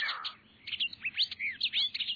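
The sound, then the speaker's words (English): A green heron flushes from the water's edge of an oasis to take shelter in the trees, amid a quick run of sharp, high chirping bird calls, clear over a quiet background with no talking. “And when a steer wanders by for a drink, a green heron flushes from the water's edge to take shelter in the trees of the oasis.”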